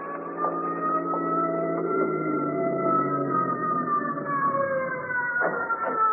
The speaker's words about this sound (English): I walked outside the emergency room door to await the ambulance. As I heard it approach, a car pulled up to the door.